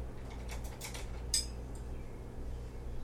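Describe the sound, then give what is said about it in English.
Quiet kitchen clatter as clean dishes and cutlery are taken out of a dishwasher: a few soft scrapes and taps, then one sharp ringing clink of metal on crockery, over a low steady hum with no talking. “Get some clean dishes out of the dishwasher.”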